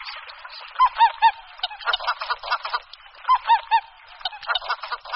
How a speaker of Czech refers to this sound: Husa běločilá má hlas výrazně odlišný od hlasu husy polní. V tom hlasovém projevu je slyšitelné takové pisklavé nebo chraptivé volání znějící jako klik, klik, nebo jako kaulik, kaulik.